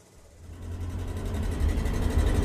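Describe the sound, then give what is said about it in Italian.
A car engine, heard from inside the car's trunk, drones low and steady, its muffled rumble gradually growing louder and rougher over a couple of seconds, with no voices present. “Siamo nel bagagliaio di una macchina.”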